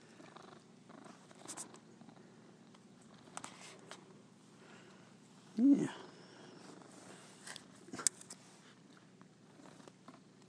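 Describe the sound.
A cat purrs steadily, a low continuous rumble running through the whole recording, with a brief spoken word and a few faint rustles and taps partway through.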